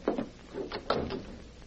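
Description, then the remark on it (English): A door being opened: a dull clunk of the latch, a short pause, then a second rattling knock as it swings, fairly quiet and with no voices. “Open the door.”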